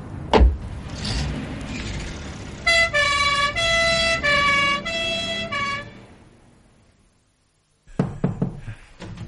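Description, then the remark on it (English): An ambulance siren, on its way to a heart attack at a bank, sounds in quick repeated tones over a rumbling engine, loud, then fades away into silence before a few sharp knocks. “Ambulance station. Heart attack at the bank. Good heavens, we're on our way.”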